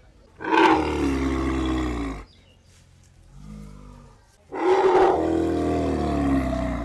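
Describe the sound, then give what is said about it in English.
Elephants in their pens in Taklang Village, Surin Province, trumpet and rumble: two long, loud, brassy roaring calls with a softer low rumble between them, no voices present. “Elephants romp in their pens as their ethnic Kui owners live nearby in wooden houses on stilts.”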